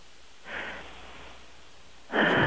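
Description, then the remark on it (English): Slow, heavy breathing of a sleeping woman right into a phone: a soft breath, a long pause, then a louder, noisier one, with steady line hiss underneath and no talking. “It's hard to get somebody to breathe right into the phone asleep.”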